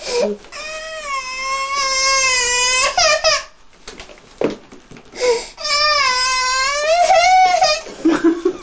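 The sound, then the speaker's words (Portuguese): A baby cries in two long, wavering wails with a short whimpering pause between them while a diaper is being put on; the crying sounds strained and put-on rather than truly distressed. “Estava a fazer um choro forçado.”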